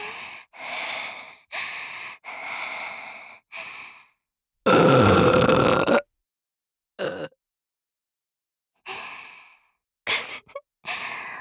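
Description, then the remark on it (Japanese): One loud, drawn-out burp of about a second and a half, set among several soft breathy sighs and exhalations, with no talking. “脇で顔締めて強制ホーリーゲップされるの好き？”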